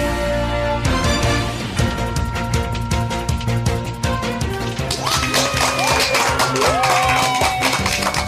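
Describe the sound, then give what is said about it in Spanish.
Steady, dense applause fills the whole stretch, with cheering voices and rising whoops on top toward the end, loud and continuous without any speech. “Con esa energía positiva y esos aplausos damos inicio a este episodio número 305 del programa del podcast Te Invito a un Café.”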